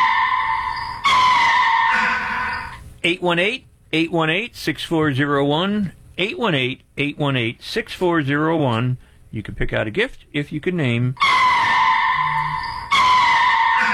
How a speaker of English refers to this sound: Sea lion, lion of the sea. Roar, roar, roar, roar, roar. Sea lion roars loudly. Look at the sea lion.